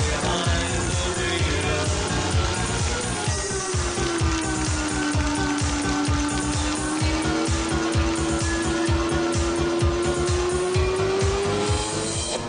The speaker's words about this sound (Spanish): Rugen los motores y se enciende el semáforo.